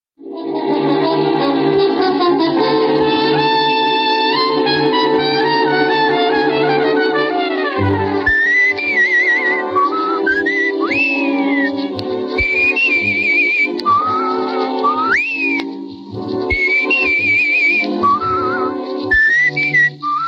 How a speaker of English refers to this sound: Dick Powell starred in the leading role, and its theme, Leave It to Love, was whistled by Powell at the beginning of each episode.